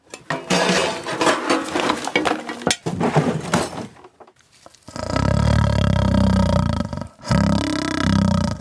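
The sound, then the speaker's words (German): A lion roars loudly in two long, rumbling bursts, following several seconds of busy clattering and knocking noises. No one speaks. “Das Brodeln, Glucksen, Hammern und Stechen, Reifenquietschen und Löwengebrüll.”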